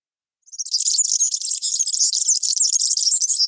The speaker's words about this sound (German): Wir hören uns nochmal den Girlitz zum Vergleich an.